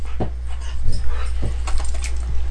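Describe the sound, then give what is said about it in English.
A dog pants and moves around, with soft thumps and scrabbling of movement and a faint whimper, over a steady low hum, no voices. “Max, you want one? Oh, see, the dog's moved.”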